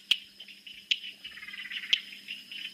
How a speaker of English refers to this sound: that is the stonemason's froglet or toadlet. And there's actually frogs in the background that you could hear, which one of them was the northern laughing frog, which was like, wah!